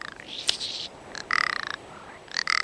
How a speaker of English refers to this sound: Later in spring, a snow-white male will flutter into the air, then glide to earth while calling loudly. He fans his black tail in spectacular display before the female.